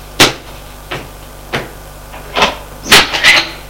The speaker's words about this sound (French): Bon, sortons de ce coin intime. Allons ouvrir une porte qui est en face de la porte d'entrée de l'appartement.